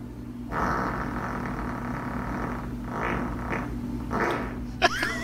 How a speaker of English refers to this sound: Wow. That's as much of a fart that I could do in probably half a week. How can you hold that much in?